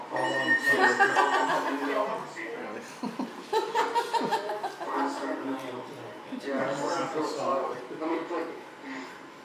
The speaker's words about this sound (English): And I've now got me a phone call.